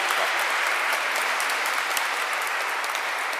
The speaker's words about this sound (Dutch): Een applaus voor moeder Maria, als dat geen aureool verdient.